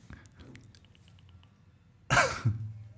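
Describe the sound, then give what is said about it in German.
A single short, dry, deliberate cough made to mark a bad joke, bursting out after a quiet stretch with faint low murmuring, followed by a brief throaty tail. “Und, ihr müsst, wenn ihr dieses Husten machen wollt, um einen schlechten Gag zu verdeutlichen, müsst es möglichst trocken sein.”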